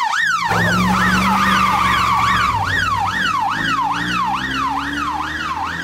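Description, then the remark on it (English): A police car siren wails in fast, regular up-and-down sweeps over a low engine rumble, loud, easing off only slightly as the vehicle pulls away. “Exits in police car.”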